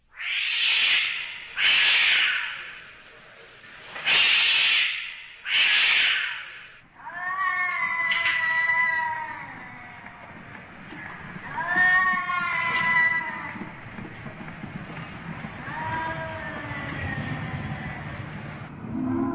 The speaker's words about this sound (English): And every night at 3 a.m., there are cats.